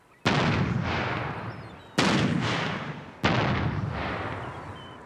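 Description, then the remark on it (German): Three loud, sharp blasts from a boat-mounted acoustic bird-scaring cannon fire in quick succession, fired by a fishing crew while lines are set, to drive birds away. Each is followed by a long rumbling echo that rolls away across open water. No voices are heard. “Während die Leinen ausgebracht werden, feuert die Besatzung in 1-2 Minuten Abständen eine auf dem Boot montierte akustische Kanone ab, um die Vögel zu vertreiben.”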